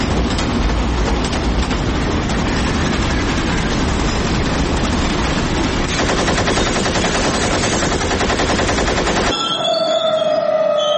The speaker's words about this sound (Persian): بر پایه بیانیه دولت ایالتی بلوچستان، قطار جعفر اکسپرس راهن سراسری پاکستان در حالی که از مبدأ کویت عازم پیشاور بود، هدف رگبار سنگین گلوله قرار گرفت و متوقف شد.